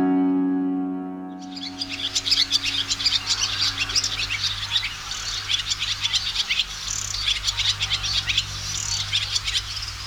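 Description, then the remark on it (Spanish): Barn swallows (Hirundo rustica) twitter in a dense, continuous stream of rapid high chirps, steady, over a low background hum, starting after a brief quiet opening. “Golondrina tijereta, de nombre científico Hirundo rustica, del orden Passeriformes y la familia Hirundinae.”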